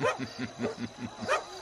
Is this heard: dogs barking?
yes